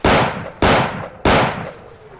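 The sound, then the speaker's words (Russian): Three loud Colt revolver shots fire in steady succession at a monster, each a sharp crack followed by a brief decaying echo, with no voices. “Калий выхватил из-под подушки кольт и расстрелял монстра 3 выстрелами”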